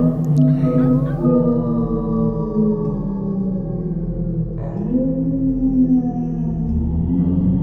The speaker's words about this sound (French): Ils entendaient des hurlements de loups.